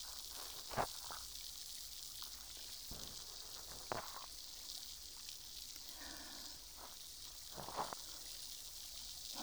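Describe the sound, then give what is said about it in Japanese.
Steady fizzing of a carbonated cotton swab inside the ear, a soft continuous hiss broken by a few sharper pops and crackles, with no voices. “とした感触と炭酸の音、気持ちいいですよね。”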